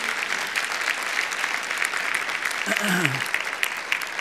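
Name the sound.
audience applauding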